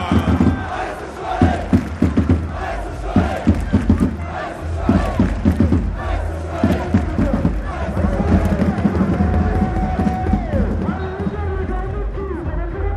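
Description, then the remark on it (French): A large stadium crowd at Stade Bonal roars and cheers for FC Sochaux-Montbéliard, with bursts of rhythmic clapping in the first half and a loud, sustained wall of shouting and whistles throughout. “Et j'aimerais un tonnerre d'applaudissements, mesdames, messieurs, pour les jaunes et bleus, le FC Sochaux-Montbéliard.”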